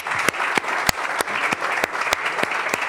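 A crowd applauds steadily for about three seconds, a dense patter of clapping with a few sharper, louder claps popping out at a regular beat. No one speaks.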